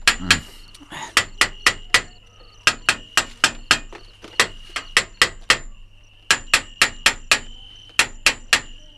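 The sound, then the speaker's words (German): A hammer strikes the metal bars of a gorilla cage in quick bursts of four or five sharp, ringing clangs, separated by short pauses, loud with a lingering metallic ring, to check that the bars are sound. “Doc Dawson, was wollen Sie denn mit dem Hammer? Den Käfig kontrollieren. Ich will wissen, ob die anderen Stäbe in Ordnung sind”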